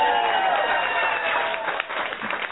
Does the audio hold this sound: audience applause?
yes